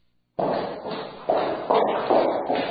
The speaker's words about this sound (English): Imagine walking down the street and hearing footsteps behind you. They get closer and closer, and suddenly you have a sense something bad is going to happen.